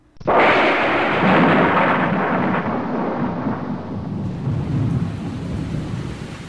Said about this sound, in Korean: 마당 가득 반짝이던 별빛을 뚫고 느닷없이 천둥 번개가 치며 장대비가 내렸습니다.